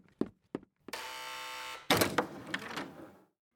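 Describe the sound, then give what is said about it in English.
Three quick knocks, then a harsh, steady electric door buzzer drones for about a second. A burst of clattering, rattling noise follows, like a door being opened. “Someone's at the door. Who could this be now?”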